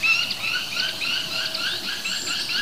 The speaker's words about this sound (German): Also wir haben den Kleiber, wir haben den Star, wir haben Bluthänflinge, die rüberfliegen.